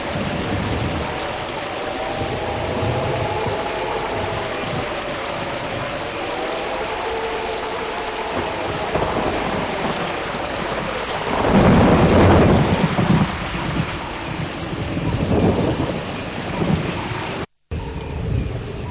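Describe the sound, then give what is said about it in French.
A thunderstorm rages with steady heavy rain, and a loud rolling crack of thunder swells up midway before rumbling off. No one speaks. “Un jour, il y a un orage terrible.”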